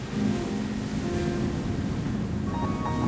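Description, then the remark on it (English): A steady rumble of ocean waves breaking on rocks at night in the moonlight, a dense continuous roar with no distinct pauses between swells, and no voices. “I hear the sound of the waves breaking, the rumble, and I can see the landscape full of rocks in the moonlight.”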